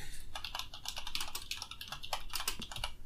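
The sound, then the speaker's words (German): Rapid, uneven clicking of computer keys being typed on, a steady stream of keystrokes with no talking, at a fairly quiet level. “Jetzt hört man leider die Tastatur”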